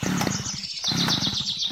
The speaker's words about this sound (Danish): Så skal man fylde ned over i motorsaven med Shift F. Og så trykker vi mellemrum for at starte saven.